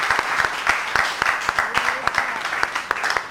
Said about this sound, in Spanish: ¿Le damos un aplauso? ¡Venga! Por lo bien hablada.